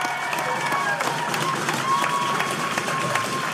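An audience at Halifax Cineplex applauds and cheers for the night's guest, a dense wash of clapping with scattered whoops and whistles riding on top, sustained at an even level throughout.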